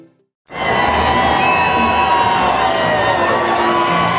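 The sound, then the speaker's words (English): A large crowd cheers and shouts continuously downtown at the Dodgers victory parade, a dense roar of many voices with scattered whoops and high yells, loud and sustained after a brief silent start, as at an outdoor celebration. “That's the crowd. That's what it sounds like. Downtown right now for the Dodgers victory parade.”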